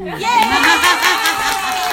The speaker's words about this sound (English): If we clap loud enough, can we have an encore?